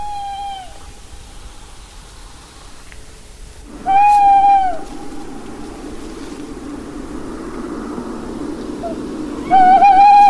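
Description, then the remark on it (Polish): An owl lure call is played from a phone three times with long pauses between, each a clear, shrill note lasting under a second, over a steady low rumble of outdoor background noise in piercing cold. “Jeszcze dodam taką ciekawostkę o wabieniu sów.”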